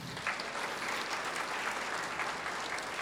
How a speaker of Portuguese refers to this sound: Glória a Jesus por isso. Palmas a Jesus.